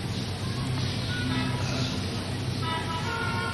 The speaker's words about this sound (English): These motor cars are running. They are running just like the flies come. Pat, pat, pat, pat, pat, pat.